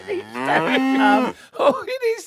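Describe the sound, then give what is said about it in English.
A cow moos loudly in one long, drawn-out bellow, followed by a couple of shorter, rougher lowing calls. No talking. “can we talk about the bovine behemoth that is making I'm glad you everywhere.”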